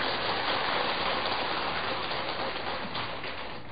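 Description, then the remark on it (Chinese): A crowd claps to welcome an invited Buddhist Dharma master, a dense, steady patter of many hands, sustained for a few seconds and easing off slightly toward the end, with no voices over it. “所以我即摆甲邀请来，啊，就是即个原因啊呢，佮甲鼓掌一下呢。”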